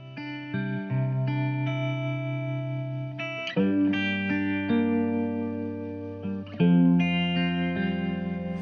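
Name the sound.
song intro played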